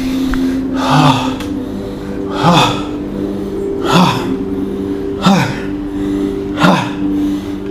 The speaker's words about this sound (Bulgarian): Дишай дълбоко. Дълбоко вдишване, рязко издишване. Дълбоко вдишване, рязко издишване. Дишай. Дълбоко вдишване, рязко издишване.